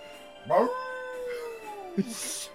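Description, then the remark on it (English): A person imitates a wolf howl: one long howl that swells, then slowly glides downward for over a second, ending with a couple of short breathy bursts. “I even practiced my howl before the date so I'd look authentic.”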